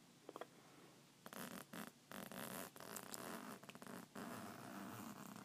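A clothing zipper is pulled all the way down to the crotch in a long, raspy run of scratchy bursts, broken by a few brief catches, after a quiet second or so. No one speaks.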